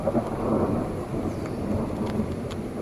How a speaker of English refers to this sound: It's still raining, but I'm not really concerned with this level of rain.